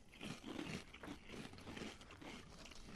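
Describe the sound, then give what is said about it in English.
Crunching of Grandpa Rossi Crunch breakfast cereal, a steady run of dry, crackly chews with bursts of bite noise over about three seconds, no talking. “Crunchy.”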